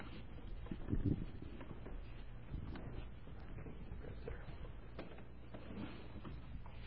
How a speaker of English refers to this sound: And let's, can we move this? Yeah, I want to move the pulpit. Pull it your way.